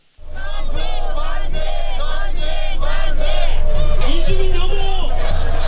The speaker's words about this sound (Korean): 이들은 한반도 긴장 고조와 무기 강매 스톱 등의 구호를 외치면서 시위를 벌였습니다.